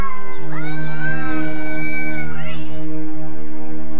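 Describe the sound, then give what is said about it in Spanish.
A drawn-out, wavering cat howl rises and falls over a couple of seconds, loud, with a steady low hum underneath and no talking. “Y allí también se oyen aullidos de gatos.”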